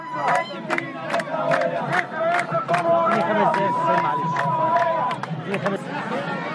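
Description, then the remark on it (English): A dense crowd of villagers outside a polling station in Dakhalia province, Egypt, on election day murmurs and shouts while women's high, warbling ululations rise repeatedly above it to applaud those going in to vote, wavering trills sustained for a few seconds amid sharp claps and cries. “A large crowd of villagers gathered outside a polling station in the province of Dakhalia as women ululated from time to time to applaud those who were going in to vote.”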